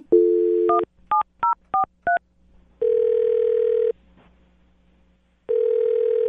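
A steady dial tone gives way to a quick run of five touch-tone beeps as a phone number is dialed, then two long, loud ringback tones separated by a pause.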